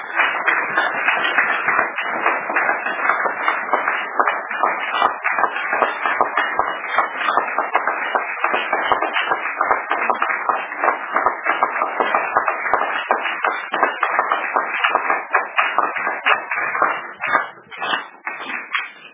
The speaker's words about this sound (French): Applaudissons d'abord pour le Seigneur.